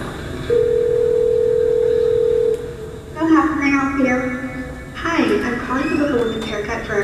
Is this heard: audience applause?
no